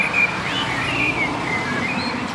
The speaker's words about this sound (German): Also es scheint Sinn zu machen, dass die Vögel relativ früh mit Singen anfangen. Dann muss man nicht ganz so laut trällern.